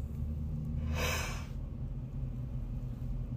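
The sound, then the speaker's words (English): A single breathy yawn, a soft airy exhale lasting about half a second, rises and fades over a steady low hum, with no talking. “As I yawn here”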